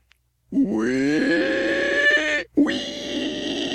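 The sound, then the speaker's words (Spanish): A person imitates a pig squealing with a loud, strained, rising squeal that lasts about two seconds, breaks off briefly, then returns as a second harsh, sustained squeal. “chillando como puerco”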